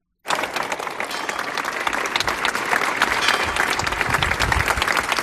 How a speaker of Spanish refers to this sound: finalizaba el minuto de silencio en memoria de estas cuatro chicas a las puertas de este del ayuntamiento de la localidad, roto tan solo por este emotivo aplauso.